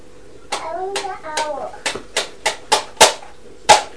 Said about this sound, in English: Oi! No, if you bang and break your toys like that, I won't buy you any new ones.